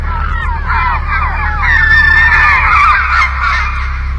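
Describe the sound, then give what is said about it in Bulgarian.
A flock of birds swooping in suddenly out of the fog calls in a dense, overlapping chorus of honks and squawks that swells slightly mid-way and continues steadily throughout, over a low, constant rumble. “Какви бяха тия птици? Връхлетяха изведнъж от мъглата и не отлетяха.”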